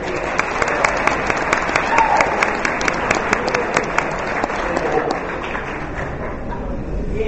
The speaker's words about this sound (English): We appreciate his hard work and dedication to the transportation department. We want to say thank you to Jeff. Let's give Jeff a round of applause.